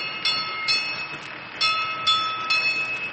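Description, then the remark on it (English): A steamboat's signal bell, rung as a signal to the engine room, rings out in about six bright, metallic strikes at an uneven pace, each tone lingering and overlapping the next, with no voices. “That's a signal to the engine room.”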